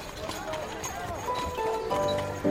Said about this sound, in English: Near, a group of horses and horn sounds, maybe the musicians from Verzac.